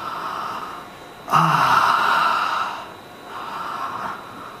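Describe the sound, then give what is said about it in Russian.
A deep breath drawn in sharply through the nose, followed by a long, airy exhale, then a softer second breath; fairly loud, with no talking. “Мы дышим, мы вдыхаем воздух и выдыхаем воздух, да?”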